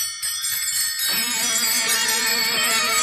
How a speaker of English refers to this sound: Ringing the bell.